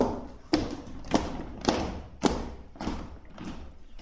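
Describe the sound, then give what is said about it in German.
Heavy stomping footsteps of Captain Häkelnadel stomping from palm tree to palm tree, about six thudding stamps in a steady, plodding rhythm, each a dull low thump with a little scuff, with no voices. “Gerade rechtzeitig, um zu sehen, wie Captain Häkelnadel von Palme zu Palme stampfte.”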